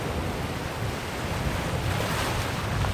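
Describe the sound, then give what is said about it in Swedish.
Steady roar of open-sea waves washing in against a stony, rocky shore at Tjurpannan in northern Bohuslän, Sweden, with a lone lighthouse out at sea. Loud and continuous with a windy rush over it and no voices. “Det är öppet hav ut mot en ensam fyr och vågorna slår in mot stenstranden.”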